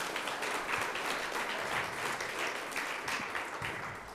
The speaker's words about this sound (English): Okay, you can take a seat. Let's give our detectives a round of applause.